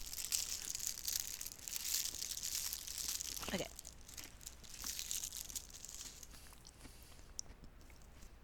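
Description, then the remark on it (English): Steady crinkling and rustling of a plastic snack wrapper being torn open, with a brief tearing burst midway and a single short spoken word. “All right, I'm going to open my snack.”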